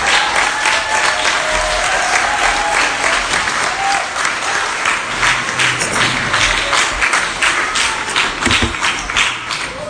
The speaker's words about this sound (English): I'm not even going to try to name all the people involved because that's a long list of people, but I do think we should give them a round of applause and thank those who made this happen.